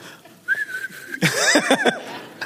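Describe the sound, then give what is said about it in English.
A single steady, sustained whistle, depicting Absalom whistling to call back his donkey, holds for under a second, then gives way abruptly to a louder burst of wavering, voice-like calls. “I think Absalom was probably whistling for the donkey.”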